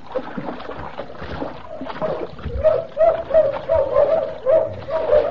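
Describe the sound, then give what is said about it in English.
Bloodhounds pursuing a fugitive bay in a steady run of drawn-out, mid-pitched howls that grow louder partway through, over a continuous wash of splashing, churning, icy river water. “After me with bloodhounds.”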